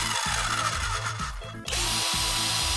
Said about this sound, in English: We got cordless electric drills.